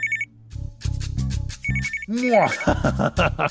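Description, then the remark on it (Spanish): A telephone rings in repeated short electronic bursts, fairly loud, while lively voices talk and exclaim over it. “Podría ser tu mamá, Mariela. ¡Contesta! ¡Contesta!”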